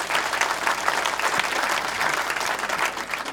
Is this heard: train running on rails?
no